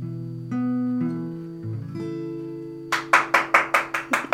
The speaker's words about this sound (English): It feels wicked. You clap as well. It feels wicked.